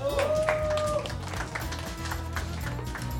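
An audience applauds a participant being welcomed under a new DJ name, a dense, steady patter of clapping that lasts the whole three seconds, never swelling much, while a low tonal sound runs underneath.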